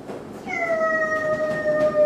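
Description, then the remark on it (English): A child on a Radio Flyer wagon vocally imitates a train whistle with one long, high-pitched, steady hoot held for about a second and a half, clear, with no other talking. “And that train noise in the background”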